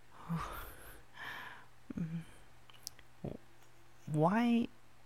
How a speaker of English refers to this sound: Why do my yawns relax you? You don't really know. You just know that they do.